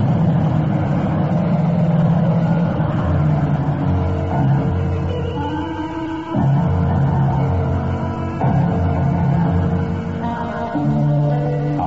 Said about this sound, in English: He chickened out. The damn fool's trying to come back inside, but the car won't hold it. No! Oh, good Lord, she's lost!